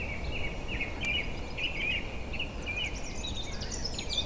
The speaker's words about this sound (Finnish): Aliarvostettu, ehkä vähän hyljeksittykin. Niin sanottujen kovien lintuharrastajien piirissä he eivät pysähdy sitä kuuntelemaan. Se on punarinta.